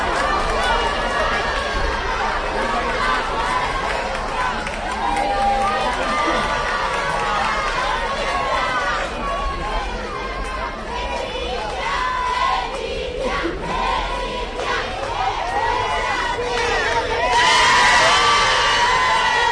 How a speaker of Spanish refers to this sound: La reina Leticia, muy aclamada, como escuchan por los vecinos del barrio, al grito de guapa, guapa, ha accedido al recinto educativo en torno a las 10:30 de esta mañana